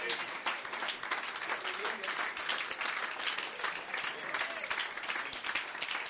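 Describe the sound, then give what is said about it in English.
A standing church audience claps together in praise of God, sustained applause in a dense, steady wash of many hands lasting the whole stretch with no break in its loudness. “Give him a clap of praise.”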